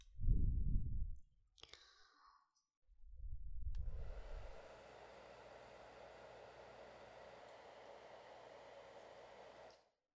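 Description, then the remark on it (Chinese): A few soft, low thumps and rustles, then a hair dryer plugged in beside a bed switches on. It blows with a steady whooshing roar for about six seconds while drying someone's hair, then cuts off abruptly. “正好你的床边就有插座，我拿吹风机给你吹一下头发。”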